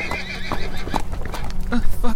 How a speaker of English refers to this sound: Please don't stomp me, Bluster. Please. He ain't gonna stomp you. He ain't that kind of horse. Right, Bluster? That's right.